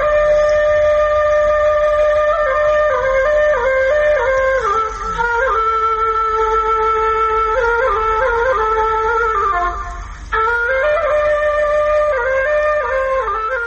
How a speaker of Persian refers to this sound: شنیدن ساز توله بر شما تأثیر می گذارد. توله را بلو یک گل نواخته، گل در حرکت آمده. توله در فرهنگ افغانها چی جایگاه داشته و تا چی حد این وسیله در موسیقی افغانستان حفظ شده است؟ آله موسیقی سنتی خود افغانی است.